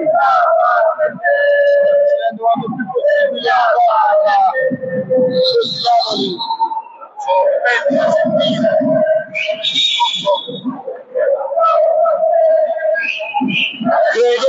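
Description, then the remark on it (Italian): A loud, continuous chant of Napoli Basket fans at a basketball game, rising and falling in sung phrases with whistles piercing through, dense and sustained for the whole stretch. “veniamo coperti continuamente dai tifosi di Napoli.”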